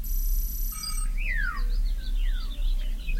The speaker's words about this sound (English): Gonna call up some holograms of merry oldie earthy for you. Cuckoo.